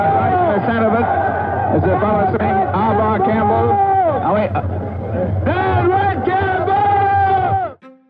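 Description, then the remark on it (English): A loud crowd jeers and shouts continuously at police, many voices overlapping in rising and falling yells and boos, with a steady low rumble beneath, before cutting off abruptly. The crowd is on streetcar tracks trying to stop the streetcars while police form a line and push them back, during a riot in Quebec. “They jeer as the police try to push them back.”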